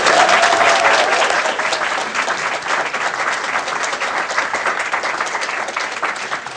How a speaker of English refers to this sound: Okay, that wraps up the Q&A portion of the session today. Can we have a quick round of applause for our speakers, please?